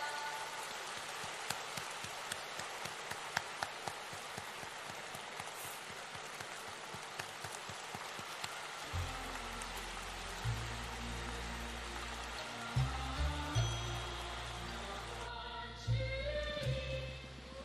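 Dense, steady applause crackles throughout, a thick wash of many hands clapping as an audience welcomes station director Lu Junhong, while deep sustained music tones swell in beneath it about halfway through.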